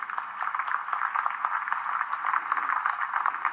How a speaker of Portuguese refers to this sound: Chega de aplausos.